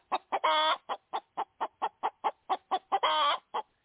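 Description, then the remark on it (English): A hen clucks in a quick, steady series of short clucks, broken twice by longer drawn-out calls, fairly loud with no one talking. “Oh, by the way, folks, if you didn't know this, free-ranging poultry, chickens, but important, Cornish game hens.”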